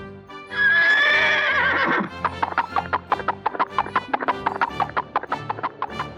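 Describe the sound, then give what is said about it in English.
A loud horse whinny rises and quavers for about a second and a half, then gives way to rapid clip-clop hoofbeats trotting steadily to the end. “Horse.”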